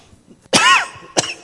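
Two coughs: a longer, harsh first one with a rasping voiced tail, then a shorter, sharp second cough a moment later, with no talking around them.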